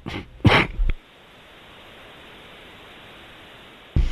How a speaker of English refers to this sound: Did he hear me? Sorry, I was coughing.